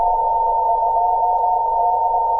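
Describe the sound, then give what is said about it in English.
A Morse code radio tone carrying data exfiltrated from a file sounds alone and fairly loud, a steady mid-pitched beep that wavers and drifts slightly in pitch throughout, over a faint low hiss. “The signal drifts a lot,”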